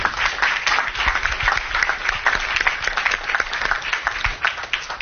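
An audience applauds a team being thanked, many hands clapping in a dense, continuous wash of sharp claps that holds at a fairly even level throughout, with no voices standing out.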